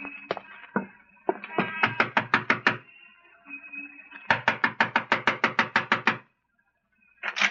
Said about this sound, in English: Yeah, stop your knocking. I'm sorry. Your doorbell seems to be out of order.